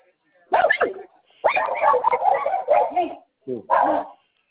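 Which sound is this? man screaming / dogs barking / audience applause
dogs barking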